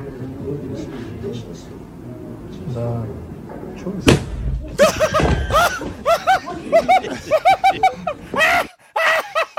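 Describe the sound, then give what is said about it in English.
A sudden loud blast as a chair explodes in a video being played, with a brief heavy rumble after it, followed by bursts of laughter and voices over a murmur of background talk. “That's not a challenge. It's just a chair explode.”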